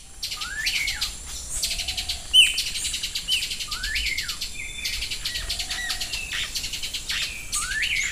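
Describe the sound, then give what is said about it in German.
Hummingbirds chirping in short, sharp high-pitched bursts that repeat every second or so, set against a steady buzz of insects and a soft outdoor background in tropical forest on the Osa Peninsula in southwestern Costa Rica; no one speaks. “Das hier sind zum Beispiel Kolibris.”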